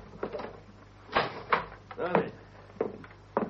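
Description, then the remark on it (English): A cabin door is pushed shut and bolted with a bolt at its bottom, giving a few wooden clunks and a rattling knock in quick succession, with muffled voices murmuring around them. “I'll shut the cabin door, eh?”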